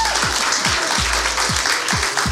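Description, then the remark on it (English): An audience filling a room at a live event applauds in a dense, steady wash of clapping that stays loud throughout, with a low thumping pulse repeating about twice a second underneath. No one speaks. “We should be clapping for you.”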